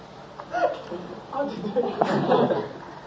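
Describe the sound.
Several short, throaty vocal bursts in quick succession, people pretending to burp on request, mixed with giggling and murmuring voices.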